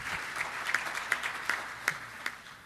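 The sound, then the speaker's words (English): Light, scattered applause from an audience after a video at the 2015 SATSE Principal Investigators Meeting: a soft bed of clapping with a handful of sharper individual claps standing out at an uneven rhythm, fairly quiet, with no talking. “You can clap for the video.”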